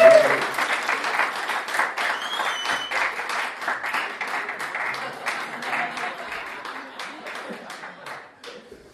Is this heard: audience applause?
yes